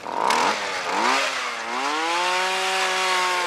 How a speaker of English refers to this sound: are charged with drilling and measuring ice thickness.